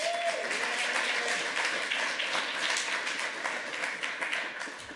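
A crowd applauds steadily for about five seconds, a dense, even wash of many hands clapping at once with no voices standing out, holding fairly loud and easing only slightly toward the end.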